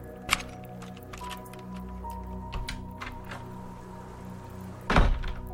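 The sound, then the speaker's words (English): An unlocked door opens with a soft thunk and a few faint clicks, then after a pause swings shut with a louder thud. A steady low hum sits underneath. “Oh, come in, the door's unlocked.”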